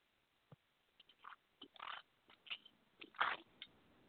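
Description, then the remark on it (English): Someone sips a Coke: a string of short, wet slurping and gulping noises at an uneven pace, growing louder toward the end, with no talking. “I need a sip of my Coke.”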